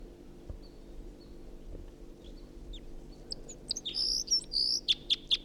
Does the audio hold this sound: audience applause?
no